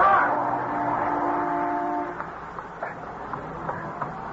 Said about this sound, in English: I thought sure you were going to get hit by that car.